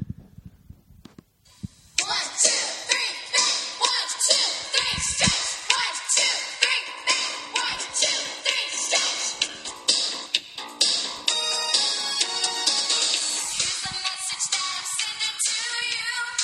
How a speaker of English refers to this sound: But I didn't see there was a real frontman because they actually sound terrible, in my opinion. It's just screechy. I love it. You got it as your ringtone. Oh, yeah.